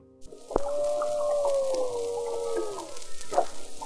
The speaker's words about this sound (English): we could hear humpback whales calling. We couldn't see them because humpback whale calls can travel for miles and miles, but we could hear their calls very clearly. I have three different recordings of humpbacks. Here's the first.